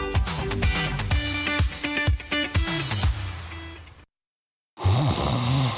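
A person snores with a loud, raspy rumble in a Mattress Firm advertisement, after a stretch of busy, rhythmic sound and a brief moment of silence. No one speaks.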